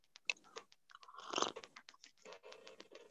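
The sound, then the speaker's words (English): A noisy slurp of hot tea, followed by wet mouth clicks and small swallowing sounds over a few seconds, with no talking. “Excuse me while I take a sip of tea”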